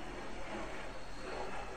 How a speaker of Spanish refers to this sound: Pasan muchos aviones, ¿verdad?